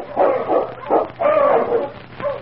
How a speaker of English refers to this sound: The following day, Ulak had gone out to hunt when Sergeant Preston heard the sound of his dog team, which meant Keok's return.